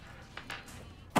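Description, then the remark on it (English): A car door shuts with a loud, heavy thud at the very end, preceded by a couple of faint clicks and shuffling, as people get out of a car outside a house. No one speaks. “they get out of the car”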